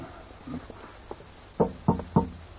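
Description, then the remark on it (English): Slow footsteps on worn, creaking wooden stairs, soft and uneven at first, then three heavy, evenly spaced thuds. No one speaks. “The stairs are rather worn. And noisy, too. They creak fit to wake the dead.”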